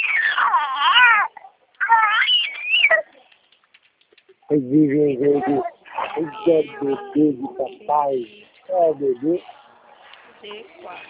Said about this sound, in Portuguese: É bebê.